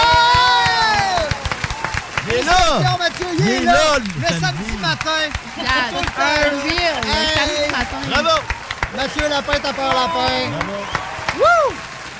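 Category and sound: crowd, audience applause and cheering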